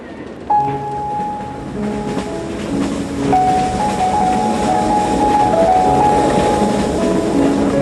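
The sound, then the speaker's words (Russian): A steam train speeds through forests at night with a steady, loud rumble, its long warning whistle sounding twice in sustained drawn-out tones over the roar of the wheels. “Всю дорогу ей казалось, что красная стрела едва тащится, тогда как поезд стремительно мчался сквозь ночные леса, обдавая их паром и оглашая протяжным предостерегающим криком.”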